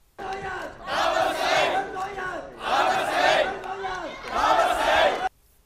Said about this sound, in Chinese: 败选的李卓人星期一凌晨3:00左右到达点票中心，先到公众席向支持者挥手，多名支持者拍手和高呼加油等的口号。